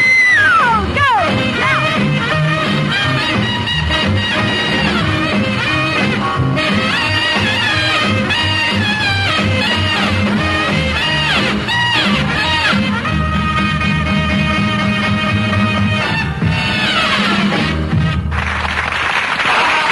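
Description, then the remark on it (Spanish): Loud, upbeat dance music plays throughout, with a driving rhythmic beat, heavy bass and bright layered melodies, punctuated by energetic shouts and whoops within the track. “¿Está para bailar o no esta música?”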